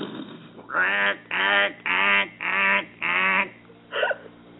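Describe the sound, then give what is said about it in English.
A duck quacks five times in a loud, steady rhythm, each call a drawn-out nasal honk, followed by a shorter, softer quack at the end. “You never seen a duck before? Look out, duck!”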